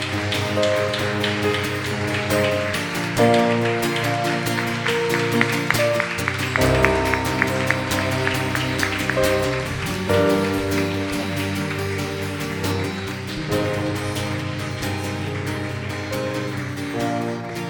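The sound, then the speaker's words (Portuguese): A crowd claps steadily and loudly for the Lord Jesus, a dense wash of hand claps that goes on without a break, with sustained keyboard chords playing underneath the whole time. “Então eu quero que você agora dê uma salva de palmas, não para mim, mas para o Senhor Jesus, amém?”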